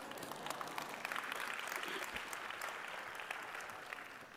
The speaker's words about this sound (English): Anyone hearing me? Oh, that deserved an applause.